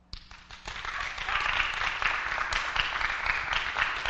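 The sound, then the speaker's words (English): An audience breaks into applause to vote that she should keep the $200, many hands clapping in a dense, steady patter that swells within the first second and stays loud and sustained to the end. “I'll say, who thinks she should keep it? Applause.”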